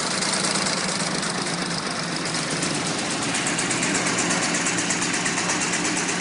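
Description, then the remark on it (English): The engine of a 1909 Brush D24 car, built in Michigan, USA, and known as the Titanic car, runs steadily at idle. It makes a loud, continuous mechanical chugging with a rapid rhythmic putter, and there are no voices. “While you are enjoying the details of this masterwork, which is probably the oldest car still operational, you can hear a recording of its engine running, I will give you some more details.”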